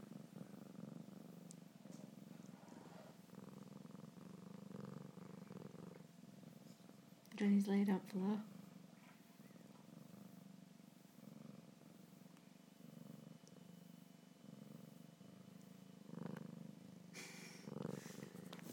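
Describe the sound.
A cat named George, sitting on a person's knee, licking and rubbing its head on a phone, purrs steadily for the whole stretch, a continuous low rumbling drone, with a person speaking briefly over it partway through.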